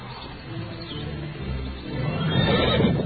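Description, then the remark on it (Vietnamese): A horse, ridden to chase a cow out of a ripe wheat field, whinnies in a long, wavering neigh that swells louder toward the end, with no talking. “Người trong ruộng thấy được liền cưỡi ngựa đuổi bò.”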